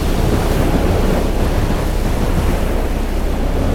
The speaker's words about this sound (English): Another wave! And it's much bigger than the last one! And it is coming towards us!